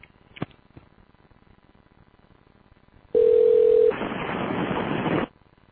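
Two faint clicks, then a loud steady telephone tone that gives way to over a second of harsh, hissing static, which cuts off abruptly as the call drops. No one speaks.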